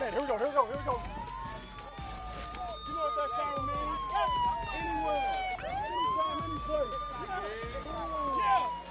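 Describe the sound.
A loud wailing siren sweeps slowly up and down in pitch, continuous, at a football team's training camp, signaling a full-speed, full-tackle live drill, while voices shout and talk underneath it.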